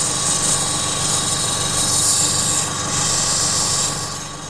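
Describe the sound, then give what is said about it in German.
A small opal grinding machine runs steadily in a wooden house with a corrugated iron roof, a continuous whir and abrasive hiss with a faint tonal hum, easing off slightly near the end. No one speaks. “Verschiedene kleine Schleifmaschinen stehen auf den Tischen, von gröberen Schleifrad bis zum Lederrad fürs Polieren am Schluss.”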